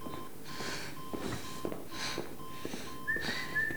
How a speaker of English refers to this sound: Hearing the whistling coming from outside, she stares at the door as the footsteps approach.